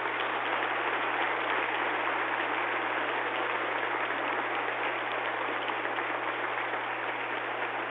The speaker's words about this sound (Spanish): A todos, levanten la mano los funcionarios del ministerio. Un aplauso a todos ellos, nuestra gratitud.